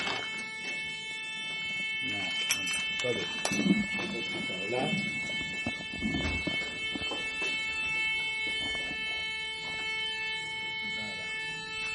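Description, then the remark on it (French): A steady electronic alarm tone sounds continuously throughout, its pitched harmonics holding level while people talk over it. “Qu'est-ce qui se passe là? Je ne sais pas. Il m'apprend un certain contact. Signal d'alarme. Voilà, signal d'alarme.”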